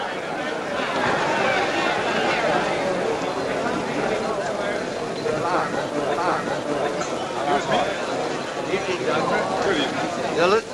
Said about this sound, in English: Later, at the St. Louis Hotel, they enter the crowded bar. Standing on the stairs, they watch a group of men break up a fight. Preston and the doctor weave their way through the crowd toward the bar. Several men greet them, doffing their hats.